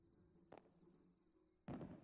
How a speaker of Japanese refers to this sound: 少し花火の音と光を楽しもうか。